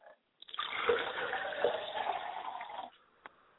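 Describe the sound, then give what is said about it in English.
A glass of water is poured out as a libation in a steady, splashing stream for a couple of seconds, fairly loud, then stops, leaving a faint click afterward. No one speaks. “I pour libations to my father's spirit, and I pour him a glass of water and say, drink well, Father.”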